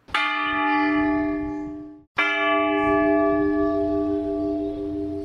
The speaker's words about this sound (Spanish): Vista al sur, campanas esquilas 5 y 6.